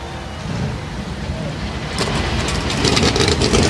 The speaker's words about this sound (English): Engines begin to come to life on the pit lane, getting closer and closer to putting the NASCAR Cup Series on the Richmond Raceway as we get set for the Toyota Owners 400.